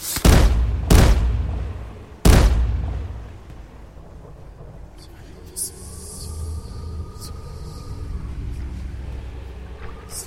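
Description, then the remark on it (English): Three loud, booming cannon shots fired on command from a ship at attackers coming astern, the first two close together and the third after a short pause, each rolling off into a rumble before a quieter background settles in. “Hoist the sails, man the cannons, swords at the ready. They're coming astern. Ready the cannons.”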